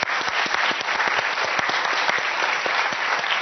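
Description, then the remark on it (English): A crowd claps steadily for a few seconds, the dense patter of many hands staying loud and even throughout with no voices over it, applauding the work of the Global Hospital and the Janky Foundation. “So everyone, a round of applause about that.”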